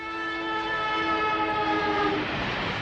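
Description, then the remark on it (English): A train horn sounds a long, steady, loud chord over the rumble of rolling railcars, holding for the full few seconds with no voices. “Trains and Tracks are gone near Vaughn's Printers, but Vaughn's is still your full-service printer.”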